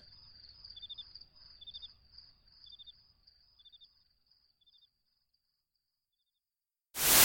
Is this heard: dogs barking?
no